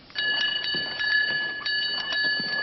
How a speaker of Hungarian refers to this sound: A papok jövetelét csengettyűs fiú jelzi. Ha a hívek beengedik a Szent Keresztet, a csengettyűs nyomán érkezik a pap is.